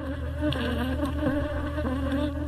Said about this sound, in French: C'est le bruit qui vous accueille lorsque vous vous approchez des essaims d'abeilles d'Awanga Timothée.